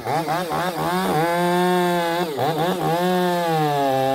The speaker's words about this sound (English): With the chainsaws running, this team, members of the Pilot Rock Hand Crew, is learning how to climb trees and cut off dead, beetle-ravaged tree limbs, and how to completely take down giant redwood trees